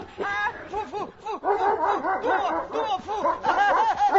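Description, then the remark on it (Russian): In the darkness, a huge dog snarls and barks aggressively while a man screams and yells, the two sounds tangled together in a loud, continuous scuffle lasting about four seconds. “Из темноты слышится грозный собачий рык и душераздирающий крик Труффальдино.”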